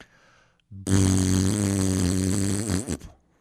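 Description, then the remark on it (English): A loud, buzzy Bronx cheer blown with the lips lasts a little over two seconds, a steady low flapping rasp that wobbles and sputters out at the end, with no talking. “Okay, for those that don't know, that's called a Bronx cheer.”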